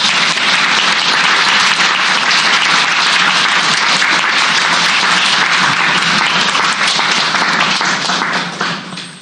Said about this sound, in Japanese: 拍手もらったので調子乗らないでください。